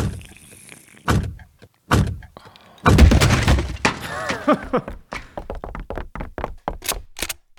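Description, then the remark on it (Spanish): Heavy thuds and crashing blows strike the door of the mayor's office at Málaga City Hall as it is broken down on command at 2:30 in the afternoon, building to a loud splintering crash followed by a rapid series of sharp knocks and bangs. “¡Tiren ese puerta abajo! ¡Tírenla abajo!”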